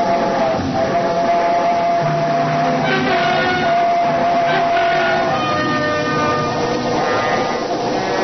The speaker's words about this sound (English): Only the train going through the tunnel, but it brought it all back. A scream and the train roaring by, the whole house shaking.